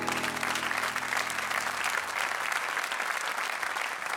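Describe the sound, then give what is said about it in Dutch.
Sustained applause from a large audience for a singing cabaret performer after a song fills the whole stretch, a dense steady clatter of many hands clapping at even loudness, with faint lingering tones fading out in the first couple of seconds. “Applaus voor de zingende cabaretier”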